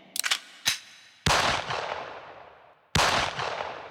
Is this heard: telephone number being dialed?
no